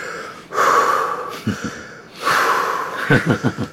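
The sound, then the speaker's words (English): A person imitates heavy breathing: two long, loud, airy breaths, each ending in a short burst of rapid huffing pulses, with no talking. “breathing. And he looked at me.”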